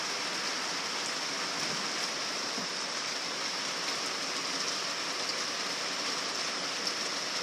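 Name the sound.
heavy rain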